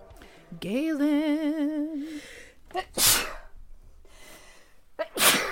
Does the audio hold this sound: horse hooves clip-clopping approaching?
no